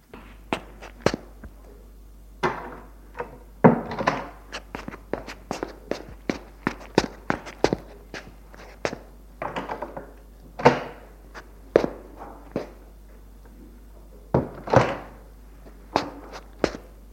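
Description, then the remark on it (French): Footsteps thud across a floor at a steady, uneven pace as someone enters, mixed with heavier knocks as the door is shut, over a low background hum, with no talking. “Il entre, ferme la porte et le conduit au salon.”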